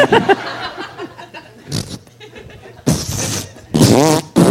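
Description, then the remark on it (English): A few loud, sputtering fart noises burst out, one short blast followed by two longer raspy ones, with faint chuckling and murmuring in between. “It's a fart a minute.”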